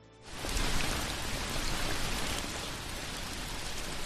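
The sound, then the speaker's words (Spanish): Steady rain pours down after a brief quiet start, a dense, even hiss of countless drops spattering on surfaces, fairly loud, with no voices. “Y lo peor es que sigue sin llover.”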